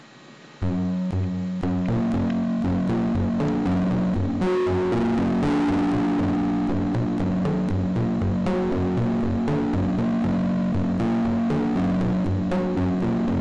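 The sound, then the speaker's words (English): Heavily distorted synthetic guitar notes generated with the Karplus-Strong string synthesis algorithm, plucked in a steady rhythmic pattern, buzzing and dense with a droning low hum, loud and continuous with no voices. “Next, I will turn down the distortion.”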